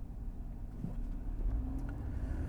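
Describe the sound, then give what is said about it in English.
A black four-door car with an electric sunroof and room for five runs steadily, heard from inside the cabin as a continuous low rumble with a faint rising hum partway through. No one speaks. “What else can I tell you about this car? It's a four-door.”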